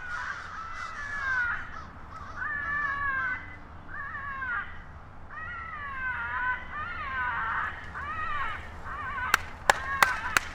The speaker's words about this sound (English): They just played tape of a distressed crow.